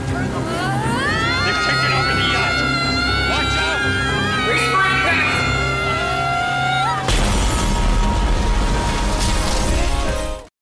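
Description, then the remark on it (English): A boat heading at full speed toward shore smashes into rocks with a sudden loud, crashing roar of splintering noise lasting a few seconds, following a tense stretch of swelling tonal sounds and shouting voices of the captain and crew. “We're going to hit the rocks. Captain! We're going to crash!”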